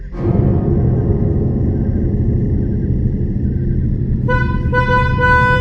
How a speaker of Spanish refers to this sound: Lo que vi me asustó, también me asustó el ruido del claxon.